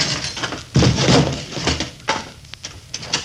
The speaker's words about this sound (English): Are you ready? Let her rip, Chief. Then open the door.